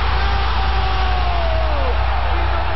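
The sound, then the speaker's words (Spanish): A stadium crowd at the Maracanã stadium roars in a dense, unbroken ovation for Pelé's 1000th goal in 1969, a loud steady wash of cheering with a few thin, whistle-like tones sliding downward through it. “Es la ovación del gol número 1000 de Pelé en el año 1969 en el estadio del Maracaná.”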